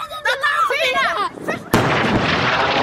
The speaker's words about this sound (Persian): همراه با صدای انفجار و تلاش ها برای یافتن نجات یافتگان احتمالی از زیر آوارها. برای نهمین روز پیاپی حملات هوایی بیوقفه اسرائیل به باریکه غزه ادامه دارد.